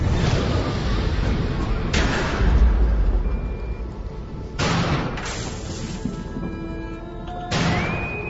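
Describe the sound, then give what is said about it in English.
A bug bomb impact rocks a ship: a deep rumbling roar broken by three sharp, heavy crashing blasts, with thin metallic whining tones ringing through the din and no voices. “Tom, a bug bomb. Skipper, we have no engines. No shields.”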